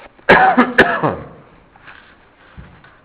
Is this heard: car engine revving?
no